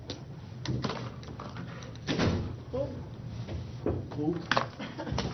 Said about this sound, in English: They shut the door on you. Okay, we are going into closed session regarding our union contract negotiations.